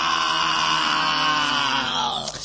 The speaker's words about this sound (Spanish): ¡Qué gran grito!